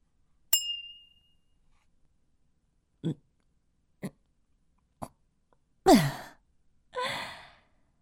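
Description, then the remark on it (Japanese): A single bright clink of glasses in a toast rings out near the start and fades quickly, followed by a few soft knocks and a couple of long, breathy exhales. No one speaks. “では改めて、乾杯じゃ。”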